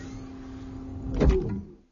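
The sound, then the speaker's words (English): A door seal activates: a steady motorized hum builds into a short, heavy pneumatic whoosh and thump near the end, then cuts off into silence. No voices. “Then the sound of the door seal activating.”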